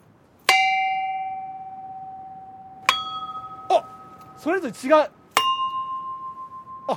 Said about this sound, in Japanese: あ、龍神の鐘って書いてある。3つ並んでますね、鐘が。で、大中小みたいな感じ、真ん中が一番でかい。で、僕はですね、もう去年失恋しまして、そのマイナスのパワーをですね、プラスに変えて みんなが幸せになれるように鐘を鳴らします。